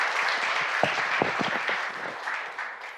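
A crowd applauds warmly, many hands clapping in a dense, steady wash with a few sharper individual claps standing out, fading slightly toward the end.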